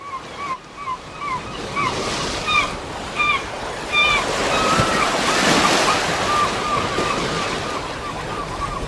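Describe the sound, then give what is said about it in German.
Waves wash steadily onto a shore, a broad continuous rush of surf swelling toward the middle, with chirping birds calling repeatedly above the roar and a breath of wind on the microphone. “Und dann komm doch einfach nächste Woche wieder mit mir ans Meer.”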